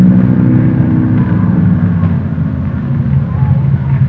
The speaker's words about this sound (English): Man, the engine sounds nice, doesn't it?